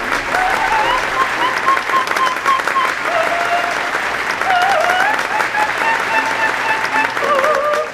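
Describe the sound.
Sustained audience applause fills all eight seconds, a dense, steady patter of many hands clapping at an even loudness, with faint cheers or voices mixed into the crowd noise.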